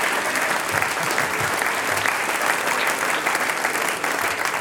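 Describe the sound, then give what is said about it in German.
Steady, sustained applause from an audience for a folk band's new guitarist, a dense wash of clapping that stays loud and even for several seconds without pause or voices standing out. “Der kriegt einen Applaus und willkommen bei der ….”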